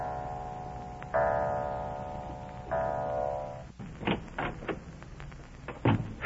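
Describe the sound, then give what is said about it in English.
In a Baby Snooks radio comedy, two resonant clock chimes ring out one after another and hang in the air, followed by a few sharp clicks and knocks as Daddy Snooks, drenched by a downpour, quietly opens the house door and lets himself in. No one speaks. “Drenched to the skin by an unseasonable downpour, he quietly lets himself into the house as the clock strikes.”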